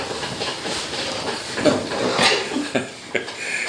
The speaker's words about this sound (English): So my dog is chewing on a bone over here, if that's what you're listening to.